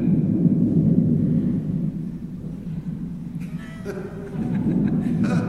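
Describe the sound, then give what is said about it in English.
A deep, steady rumble of thunder rolls on for several seconds, loud and low, with a faint voice briefly surfacing near the end. “Yes, the thunder has stopped.”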